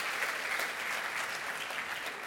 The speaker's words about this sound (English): They deserve a clap for that. That's a start, isn't it?